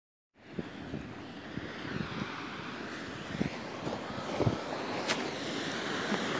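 Steady wind at a beach roars across the microphone, a broad continuous rush with occasional gusty thumps and buffeting, no voices present.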